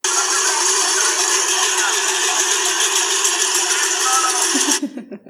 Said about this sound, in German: Es ging natürlich noch weiter, also auch dann noch später richtig lustig ist auch dieser traditionelle Brauch mit Glocken. Der hier, ich spiele es mal vor.